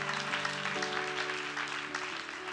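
A crowd claps steadily and densely throughout, a full wash of applause from a large gathering, with sustained low organ-like chord tones humming underneath.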